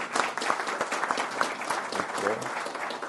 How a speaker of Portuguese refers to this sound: Então, palmas para o secretário diretor.